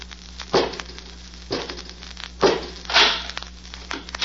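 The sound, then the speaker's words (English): A door-opening sound effect in the radio drama The Avenger, as Robot 2, a mechanical man, is ordered to open the door: a series of harsh, grinding, crackly bursts, about four in a row, over a steady low mechanical hum, with no voices. “Robot 2, open the door.”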